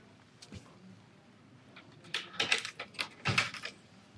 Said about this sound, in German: Ich brauche heute tatsächlich nur diesen Schlüssel für das Uhrengehäuse. Den Schlüssel für das Aufziehen der Uhr brauche ich heute nicht, kann ich gerade zur Seite legen.